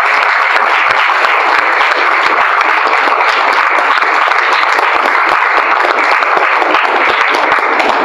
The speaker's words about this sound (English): I'm told it's the biggest arts-related comic festival in Canada. It really is. Yes, that is deserving of an applause.